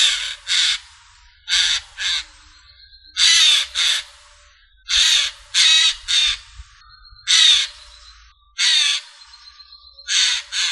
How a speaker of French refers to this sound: On dit que le jais garule, cacarde, cajole, frigulote ou jase. Il est aussi capable d'imiter le cri d'autres oiseaux, comme celui de la buse. Il imite également le ululement de la chouette ulotte.